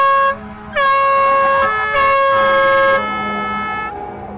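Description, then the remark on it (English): A loud, blaring horn from an ambulance or fire truck sounds in several long blasts with brief gaps as it makes its way through an intersection while a street march pauses, then trails off slightly as it passes, with faint street noise underneath. “The march is pausing as a ambulance or fire truck makes its way through the intersection.”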